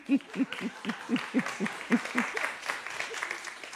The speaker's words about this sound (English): Yes. And let's clap for the ushers as they walk out.